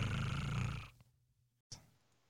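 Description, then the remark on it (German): A cat's low, rumbling purr sounds for just under a second, then fades away into quiet, broken by a single short click. “Und mit schnurrigen Grüßen schicken wir euch in die erste Pause.”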